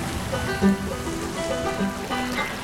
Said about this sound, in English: Surf on shingle sliding, interval shifts minutely gliding from harmony to dissonance, somewhere in the key of D.